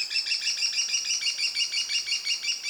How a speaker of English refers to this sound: A number of stewardship programs are coordinating volunteers to help build and put up nest boxes, improve habitat, and monitor how these cool little falcons are doing. Community conservation can be the key to the kestrel's success.